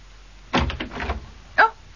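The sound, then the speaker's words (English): An office door opens with a brief rattling scrape as a man enters without knocking, followed a moment later by a single sharp click, with no voices. “Don't you ever knock? Yes, but not on the door of my own office.”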